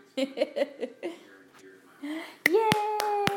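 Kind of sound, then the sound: human body sound, hands clapping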